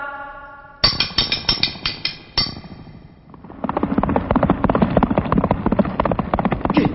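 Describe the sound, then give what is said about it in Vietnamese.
Horse bells ring out over a quick run of sharp, evenly spaced hoof clops, followed by a dense, steady clatter of hooves and jingling that swells louder. “Đúng là tiếng lạc ngựa, chắc quân tuần”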